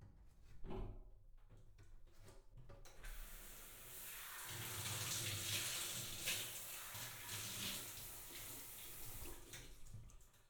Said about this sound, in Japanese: シャワーの温度はいかがですか？